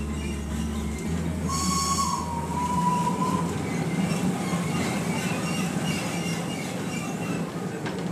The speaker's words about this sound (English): This steam engine has crawled through villages for more than 120 years, connecting the emerald Achensee in its alpine purity to the larger modern rail station in Jenbach. The Achensee Bahn is one of Europe's oldest cog railways